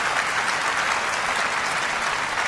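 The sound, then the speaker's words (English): A crowd applauds and cheers in a dense, steady wash of clapping that stays loud and even for the whole stretch, with no pauses or individual voices standing out. “And the crowd goes wild.”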